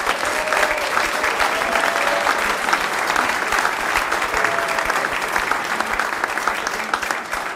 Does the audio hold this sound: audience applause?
yes